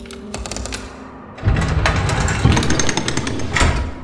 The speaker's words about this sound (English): The bars of the blood collector's cell retreated into the ceiling, the sound of bone meeting flesh whispering into the room.